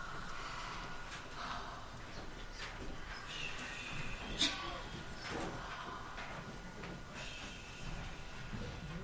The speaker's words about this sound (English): We are just breathing. Breathe with us.